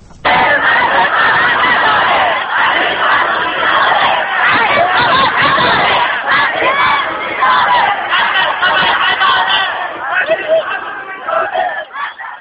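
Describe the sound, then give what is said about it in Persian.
A dense crowd of medical students holding a sit-in protest in the courtyard of Iran University of Medical Sciences shouts and yells together in a continuous, loud roar of overlapping voices, with occasional screams rising above the din and slight surges toward the end. “این صدای فریاد دانشجویان متحسن در صحن دانشگاه علوم پزشکی ایران است.”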